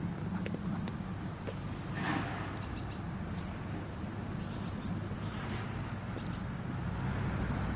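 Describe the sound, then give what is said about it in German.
A steady low car engine rumble drones on continuously from some distance away, the car idling or moving slowly, with faint airy noise on top and no one talking. “Hört mal, jetzt fahr doch mal weiter da hinten.”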